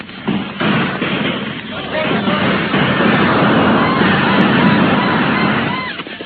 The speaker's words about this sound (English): A volley in that direction, men.